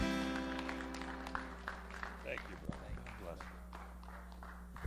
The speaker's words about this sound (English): Can you give the Lord a clap offering? Hallelujah. Thank you so much.